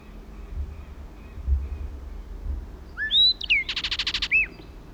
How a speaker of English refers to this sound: Kelp gulls in the background. Southern lapwings.